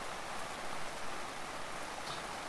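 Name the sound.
rain falling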